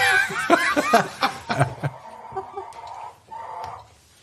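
A rapid run of close, clucking chicken-like calls, likely voiced by people imitating hens, with chuckling mixed in, then trailing off into quieter, drawn-out clucks and squawks.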